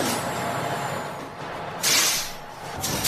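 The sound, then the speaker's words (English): A car engine turns over and runs with a rough, steady rumble, with two sharp hissing bursts breaking through near the end. No one speaks. “That's my car starting up, by the way.”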